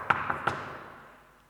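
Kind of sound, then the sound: impact, knocking on a door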